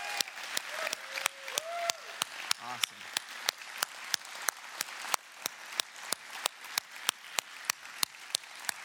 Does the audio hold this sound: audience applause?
yes